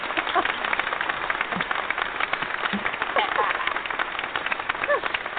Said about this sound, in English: So if I can find the landing one that I need to do, before I do that, I'm going to do this and give everyone a round of applause.